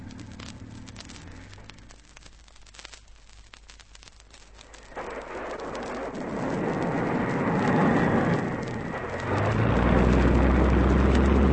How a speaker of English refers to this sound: There he goes. Will he make it? Oh, he's giving up plenty of speed, isn't he? He has to. The first real wave he strikes will throw the nose into the air. If he hasn't enough speed, the plane will stall. But he'll be all right if he's going fast.